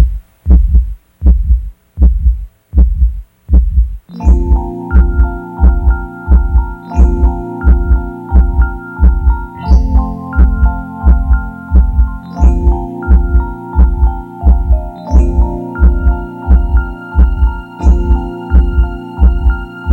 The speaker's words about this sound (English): Well, with that in mind, let's hear just a little snippet of one of the canine lullabies here, just to give listeners kind of a sense of what that's like.